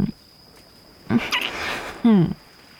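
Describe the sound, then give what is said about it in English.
Two short, rough tiger vocalizations, a growling snarl followed a moment later by a louder, strained roar. Both are fairly loud over a faint steady hiss. “Tiger.”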